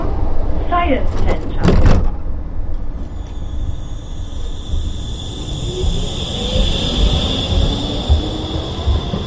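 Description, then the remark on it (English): S-Bahn commuter train doors in Berlin slide and thud shut with a couple of sharp clunks, then the electric train pulls away, its motor whine rising steadily over a low rumble. “I'm now going to hop on the S-Bahn and head to a small place near Frankfurt to discover more about the exciting things going on in Germany.”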